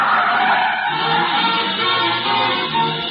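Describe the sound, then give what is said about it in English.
A car brakes hard to a stop, its tires giving a loud, continuous skidding rush that holds steady for about three seconds, with no voices. “Stop the car.”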